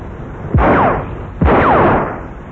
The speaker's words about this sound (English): Bang! Bang! Ah. Well, Somerville's still out shooting, and he's been joined by Mr. Watts, as you can hear.